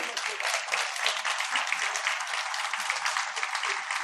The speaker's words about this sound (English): Can all the liaison committee members, reps of organizations that were part of the process, please rise, because I want everyone to give you a round of applause for the sterling job that you have taken us through during this time.